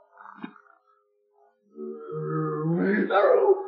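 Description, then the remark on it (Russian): A tigress growls, a deep rumbling snarl that swells louder and rougher over a couple of seconds, after a few brief softer noises and a short pause. “Тигрица! Тигрица! Тигрица! Сейчас она съест мальчишку, а потом меня.”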